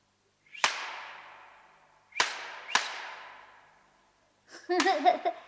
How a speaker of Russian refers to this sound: Обыкновенный пастушеский кнут. Если за кнут умелые руки взялись, это уже не кнут, а солист.